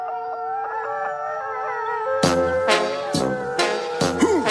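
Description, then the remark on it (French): Several dogs howl at a gate in long, wavering tones, then break into sharp, rapid yapping barks that overlap loudly, with no voices. “Ça jappe, ça hurle à la grille.”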